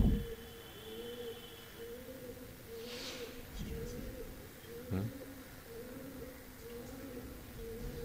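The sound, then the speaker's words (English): Birds coo steadily in the background, a soft, repeating low warble that continues throughout at moderate volume over a faint airy hiss. “Yeah, translating for the birds, right?”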